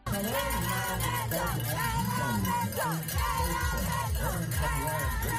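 A group of children in South Africa shout and cheer together as two participants reach the finish line of one of eight race stages, their high overlapping voices forming a loud, continuous clamor with rising and falling yells for several seconds.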